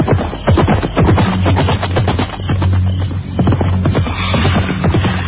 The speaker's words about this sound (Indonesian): Aku mendengar derap kaki kuda menuju kemari. Cepat.